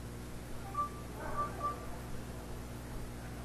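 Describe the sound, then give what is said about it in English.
A payment card reader gives a few short electronic tones near the start as a phone is held near it for a transaction, a brief pitched beep followed by two quick ones, over a steady low hum; no one speaks. “So it beeped.”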